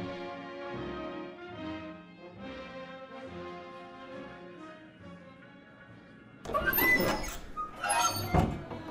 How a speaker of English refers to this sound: Inside of a notably large saloon in the daytime, a tough-looking man wearing leather armor makes a cowboy-like entry through the double doors.